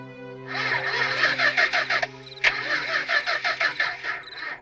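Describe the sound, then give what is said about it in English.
A car's starter cranks in two rhythmic, grinding bursts separated by a short pause, but the engine never catches or fires up. Fairly loud, with a steady low hum underneath. “Can't understand it. The motor won't turn over.”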